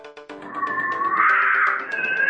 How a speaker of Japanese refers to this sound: わわ、ミケさんが野良猫さんと喧嘩してますよ。